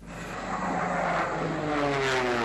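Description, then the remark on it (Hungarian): A World War II P-51 Mustang propeller plane roars steadily overhead while flying its program at an air show in the United States, its droning engine loud, with a rising whine as it passes. No voices are heard. “Kezdetben úgy tűnt, minden rendben van a P-51 Mustang típusú repülőgéppel, amikor az a programját kezdte repülni.”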